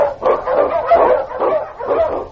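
Huskies, the sled dogs of Sergeant Preston's team in The Challenge of the Yukon, bark and yip in a rapid, overlapping string of about five loud, excited bursts, with no talking over them.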